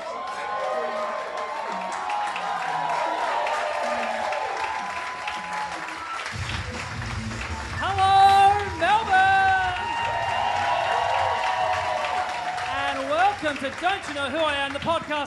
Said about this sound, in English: Round of applause if this is the first time to the podcast. Welcome, thanks for coming.